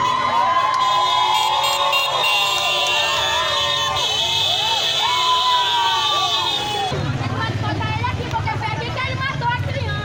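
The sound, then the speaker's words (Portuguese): In the interior of Amazonas, Brazil, a loud crowd of residents shouts and yells continuously after killing a detainee, while motorcycle horns blare in steady, high-pitched tones over the noise. The crowd's roar thickens in the last few seconds. “A gritaria da população e as buzinas de motos foram vídeos gravados e divulgados pela própria população depois de matar um detento no interior do Amazonas.”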